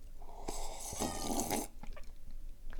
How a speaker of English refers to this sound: So I've got 2 ibuprofen and 2 acetaminophen. I'm going to get some water here. And I am going to take these pills.